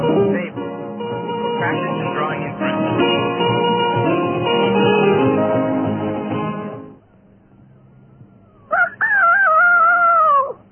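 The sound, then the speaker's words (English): A busy, dense stretch of sound fades to near silence, then a single loud rooster crow rings out, strained and wavering, near the end. “How would you like to hear the story of a smart rooster?”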